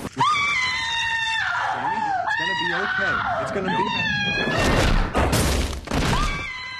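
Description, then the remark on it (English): A woman screams loudly and repeatedly in a television series clip, her high, strained cries wavering in pitch, broken near the end by harsh noisy bursts like crashing or struggling. “That's the new Bionic Woman. A lot of screaming and a lot of exposition.”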